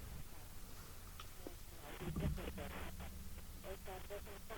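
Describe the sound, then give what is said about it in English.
Muffled, indistinct rumbling over a telephone line as a woman covers the mouthpiece, followed by faint, choppy bursts of speech that can't be made out. “Oh, she's covering the thing.”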